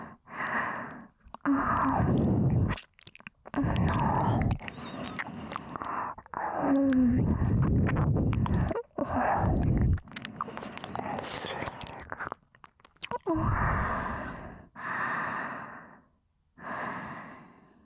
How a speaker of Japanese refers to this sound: 今の耳なめは、いわばご挨拶です。私のコンサルがうまく機能しているかの確認です。